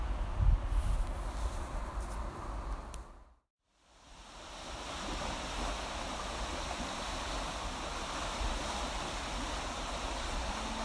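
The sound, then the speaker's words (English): Steady, full rushing of fast-flowing water at a quick-running section of the River Aire, by the riverside footpath, with rain falling, fairly loud, with a brief cut to silence partway through before the churning roar resumes. No voices. “And we're at a section of the river where it's running quite quickly.”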